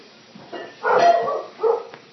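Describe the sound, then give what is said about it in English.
A dog guarding the perimeter barks a few times in quick, uneven bursts, the loudest in the middle, clear with no one talking over it. “I gotta get out that bark collar. I forgot.”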